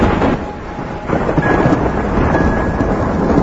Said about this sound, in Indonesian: suara gemuruh langit, sepertinya akan turun hujan.